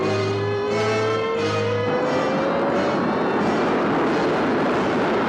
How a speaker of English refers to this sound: The rocket's engines ignite. Sybil and Van Ponder in their seats. The rocket lifts off.